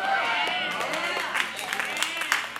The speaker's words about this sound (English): Thank you for those three hand claps of affirmation this morning.